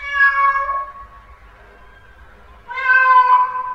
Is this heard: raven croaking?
no